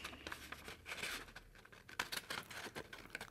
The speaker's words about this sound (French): Je donne un tout petit coup de cutter dans les lignes que j'ai tracées, celle du milieu en l'occurrence, de façon à pouvoir glisser ma paire de ciseaux à l'intérieur. Et je découpe selon la ligne.